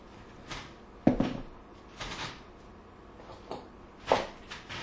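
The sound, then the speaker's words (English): Several heavy castle doors thud and creak as they're pushed shut, a string of dull knocks and scrapes spread over a few seconds, with a louder bang near the start and another toward the end. “Go to the castle, you push the doors to”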